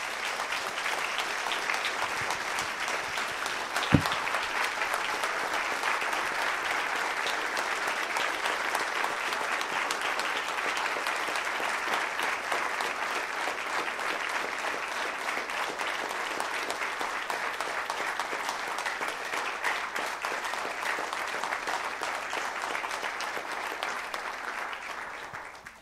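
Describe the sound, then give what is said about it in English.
A large church audience applauds veterans steadily for about twenty-five seconds, a dense, even wash of many hands clapping with no voices standing out, fading slightly at the very end. “And I would ask the rest of the church, if they would, go ahead and give them one last final applause for that.”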